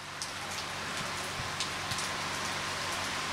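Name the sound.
heavy rain falling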